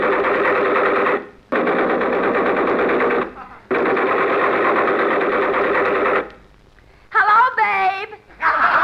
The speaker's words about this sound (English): Look, they're digging up the streets with those air hammers. Be careful.